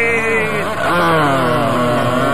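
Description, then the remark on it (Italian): A voice imitates a motorcycle engine revving, a loud buzzing, continuous drone that dips briefly then climbs again in pitch, like shifting up through gears. “Ma non può mettere in folle sta moto, che fa? Continua a cambiare le marce così.”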